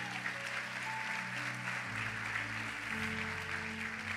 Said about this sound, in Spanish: ¿Cuántos pueden darle un aplauso al Señor por eso?